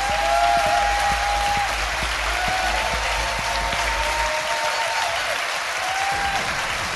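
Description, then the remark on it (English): A large audience at a live show claps steadily for guest Matthew Holness, a dense, loud wash of applause with a faint whistle-like tone threading through it. “please give a massive round of applause to my fantastic guest”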